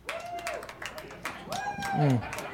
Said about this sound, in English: Gets a little harder to clap at that point. 30 years.